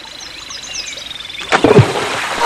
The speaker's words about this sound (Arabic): نعم أحبتي، ربط الغزال الحبال في شجرة بجانب النهر، ثم لف الحبال حول وسطه وتقدم في الماء ليلتقط الكرة، فانزلقت قدمه وسقط في النهر، فأخذ يصرخ طالبا النجدة.